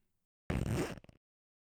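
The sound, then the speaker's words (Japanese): A trouser zipper is pulled down for a man standing at a urinal in a toilet, in one quick, raspy half-second stroke that ends in a short rattling flutter, with no voices and silence around it. “おズボンのチャックを下ろして、”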